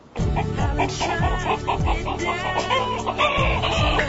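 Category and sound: bird, hens clucking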